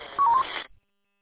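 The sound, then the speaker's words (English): A short electronic roger beep at the end of a two-way radio transmission: a quick sequence of two or three clean, mid-high tones stepping in pitch over band-limited radio hiss, ending abruptly into silence. No speech. “Oh, another thing, 662, I think I heard a Roger beep on there that they usually like you to turn it off using this system.”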